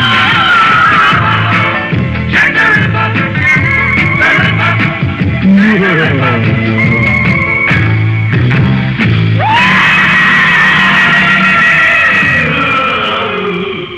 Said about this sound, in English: Did you get your daily dose of screaming from that song?